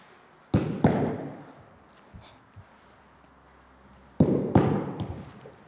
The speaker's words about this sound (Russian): Для начала просто бросить 2 мяча и их не ловить. Важно, чтобы мячи упали примерно напротив ваших стоп.